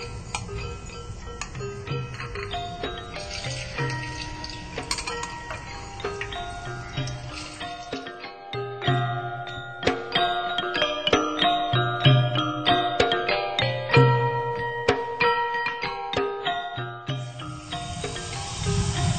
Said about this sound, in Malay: Sekarang kita goreng kentang.